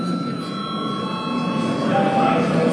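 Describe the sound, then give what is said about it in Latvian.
An electric parliament session bell rings steadily and continuously with a bright, sustained metallic tone, holding at an even loudness over a low background murmur. It is rung as the sitting nears a break. “Kolēģi, mēs esam pietuvojušies pārtraukumam. Lūdzu zvanu.”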